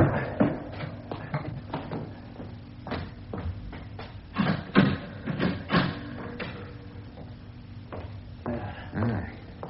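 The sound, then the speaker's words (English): Doors being bolted: a run of irregular wooden and metallic clunks, knocks and scrapes, some sharp and loud, others softer, over a faint steady low hum with no one speaking. “Let me bolt the doors.”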